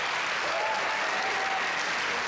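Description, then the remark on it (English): An audience claps together in a steady, dense wash of applause that holds at an even loudness throughout, with no voices rising above it. “Come on, give God a clap if you believe that.”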